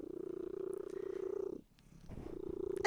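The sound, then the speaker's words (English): A cat named Cheese, sitting in a lap, purrs steadily, a low rhythmic rumble that pauses briefly for a breath before resuming, with no talking. “Well, anyway, I don't know if I can do this with a cat in my lap.”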